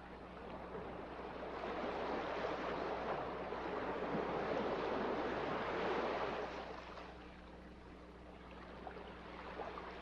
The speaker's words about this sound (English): You may focus on the sounds of the ocean, the coming and going of each breath.